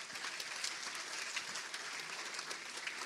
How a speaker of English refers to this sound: And so I thank you. Give yourselves an applause for that.